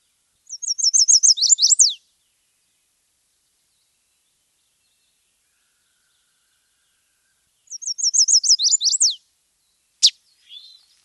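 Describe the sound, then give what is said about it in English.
Two quick, high-pitched chestnut-sided warbler songs separated by silence, each a rapid series of sweet notes ending in an emphatic downslurred flourish, heard clearly and alone, followed by a brief sharp chip. “The chestnut-sided warbler is all white below its wings with a chestnut stripe coming down starting from its eye. Its call is easy to remember.”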